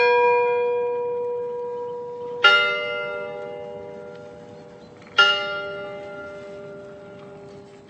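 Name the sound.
church bells ringing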